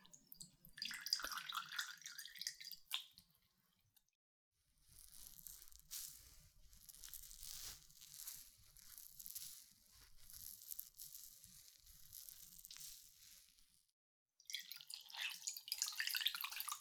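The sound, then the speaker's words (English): Soft wet trickling and dripping of warm water used to clean ears, with crackly, fizzing textures in two bursts around a quieter stretch of gentle splashing and faint low rumbling; no voices. “Okay, warm water first to clean.”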